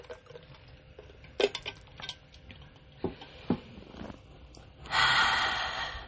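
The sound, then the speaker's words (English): A few small clicks and handling noises, then a single deep, deliberate breath into the microphone as a speaker pauses to catch breath: a loud, airy rush of about a second that fades out. No one speaks. “That was a nice, intentional, deep breath.”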